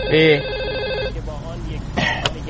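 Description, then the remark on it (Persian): A telephone rings with a bright, warbling electronic trill for about a second, then stops as a voice begins talking. “الو یه لحظه گوشی پسر”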